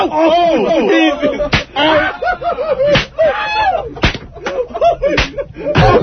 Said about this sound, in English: I want to hear the whip real fast. Oh, the whip? Sure. Everyone move back.